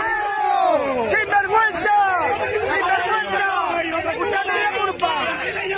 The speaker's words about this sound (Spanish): Estos gritos que van a escuchar sucedieron ayer, después del Sevilla 4, Betis 0, en la llegada del Betis al Benito Villamarín.